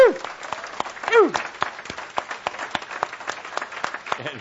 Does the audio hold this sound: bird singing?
no